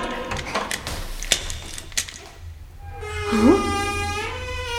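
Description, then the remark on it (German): A key rattles and clicks in a door lock as someone unlocks the door to free a person locked inside, a quick cluster of metallic clicks, followed by a drawn-out, rising squeaky tone like a door hinge creaking open. “Der Schlüssel steckt im Schloss.”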